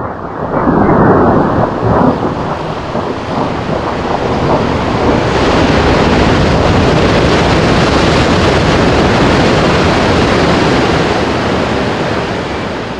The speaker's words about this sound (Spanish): Todavía no acababan de almorzar cuando se escucha que los hombres cometas de Tututepec recuperan el agua del río verde y lo dirigen hacia el mar.